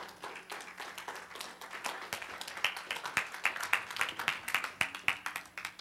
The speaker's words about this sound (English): Give the Lord a clap this morning.